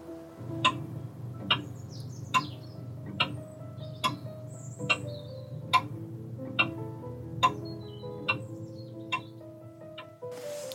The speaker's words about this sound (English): The clock continues to tick. I can hear my grandfather clock ticking now.